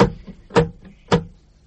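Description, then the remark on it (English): Someone tries the handle of a locked door: three sharp metallic clunks about half a second apart, with a softer click between them. The rattling is fairly loud, with no voices. “Is the door locked? Yes. Yes, it is.”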